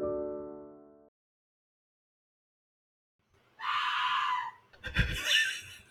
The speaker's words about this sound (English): Just a minute, and let me acknowledge the fact that a teenager just screamed in my dining room downstairs and it picked up on the mic.